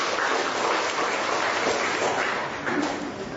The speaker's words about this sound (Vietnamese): Một người bạn trẻ nữa đang ngồi dưới chúng ta. Chúng ta cho một tràng pháo tay chào người bạn trẻ này.